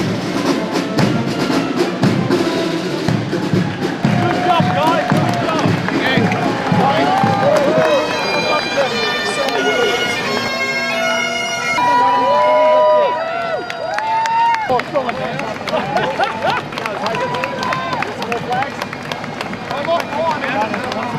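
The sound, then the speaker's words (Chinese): A large crowd cheers steadily at an Australia Day parade, cheering Victorian firefighters as heroes, with many overlapping voices shouting and calling out, plus scattered clapping, loud and sustained throughout. “在澳大利亚日的游行活动中，维州消防员受到英雄般的欢呼。”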